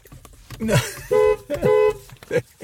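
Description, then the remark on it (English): Two short, loud blasts of a car horn in quick succession, steady and brassy, with brief bits of voice just before and after, heard from inside a car. “Keep your horn for your missus.”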